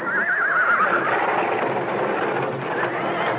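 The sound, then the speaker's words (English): A horse lets out a loud, wavering whinny near the start, with other restless noises and shuffling from sweating, shivering horses continuing for the rest of the moment. “They're sweating and shivering. The last time I saw anything like this was in Bournemouth, when a circus lion got loose among the horses.”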